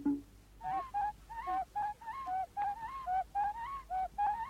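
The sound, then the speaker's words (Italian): A rapid, rhythmic series of about a dozen high, warbling bird calls, each a short rising-and-falling whistle, repeated steadily and clearly with no talking. “E i richiami degli indiani d'America, cui corrispondono perfettamente i canti degli uccelli.”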